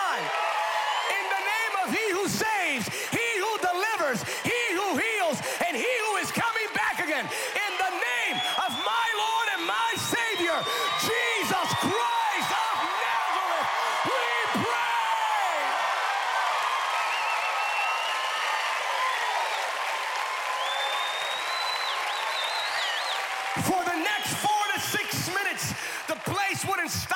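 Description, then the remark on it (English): After a prayer, a large crowd shouts, cheers and applauds together in a loud, sustained roar, with dense clapping and raised voices that continue without pause for nearly half a minute. “And shouting. They couldn't stop.”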